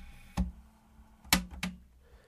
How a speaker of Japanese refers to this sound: 今別のテープを入れました。